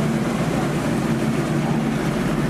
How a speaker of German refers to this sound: So, jetzt geht auch schon der Motor an.